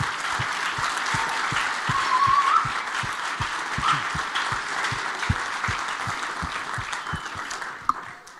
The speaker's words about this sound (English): Well, I think we can clap a little harder and longer for all the kids and all we've had this morning.